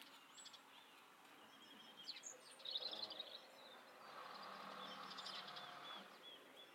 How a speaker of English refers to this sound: So, I wish I was good with birds, because I don't know what birds these are. And I don't really know which birds are native to this part of the world. But they haven't all gone away, obviously.